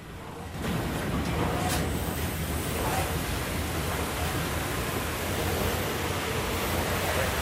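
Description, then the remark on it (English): A steady, dense roar sets in after a brief quiet start and holds evenly loud throughout, the continuous rumble and hiss of a train running along rails as it approaches a curve, while an injector handle is turned in the cab. “As the train approaches the curve, Ryan uses a rag to turn an injector handle, then quickly turns it back the other way when Noel goes to intervene.”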